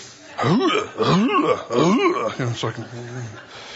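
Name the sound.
coughing and throat clearing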